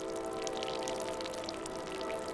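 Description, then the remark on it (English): A sack of wet salt, tied in a towel and hung on a metal hook, drips dry in the J.Q. Dickinson Sun House in West Virginia: a steady scatter of small, soft, high-pitched drips and ticks over a low, constant hum. No one speaks and the level stays quiet and even. “A train passes in the distance, but it's quiet in the J.Q. Dickinson Sun House, except for the sack of salt dripping dry.”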